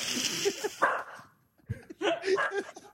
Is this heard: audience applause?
no